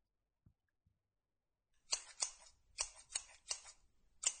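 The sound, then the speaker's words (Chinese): Scissors open and close in a series of about six crisp metallic snips, close and fairly loud, coming in an uneven rhythm after a couple of faint soft taps. “等等，我就会用这把剪刀，把你的小鸡鸡整根剪掉。”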